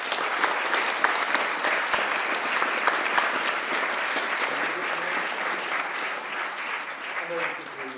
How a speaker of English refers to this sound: I'd just like to say a huge thank you to the panel for taking the time to be here, and a round of applause, please, again for the panel.